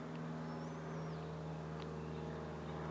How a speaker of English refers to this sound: why does there have to be a plane out here in the middle of nowhere?